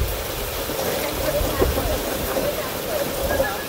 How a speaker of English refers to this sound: All right, here comes the rain some more. So let's scooch in some more.